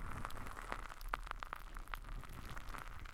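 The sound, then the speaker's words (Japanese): Carbonated drink fizzing, a steady soft hiss with irregular tiny bubble pops and a few sharper crackles scattered throughout. No one speaks. “不規則な泡の音がなんだか落ち着いてくるから不思議でしょ。”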